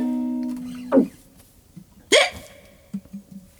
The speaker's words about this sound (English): Uh-oh. She had the hiccups.